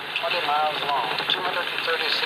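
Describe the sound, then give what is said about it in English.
A steady, whirling drone hums continuously at an even, fairly loud level, with faint wavering tones sweeping up and down inside the sustained sound. “Then you hear a light comes up on this whirling drone.”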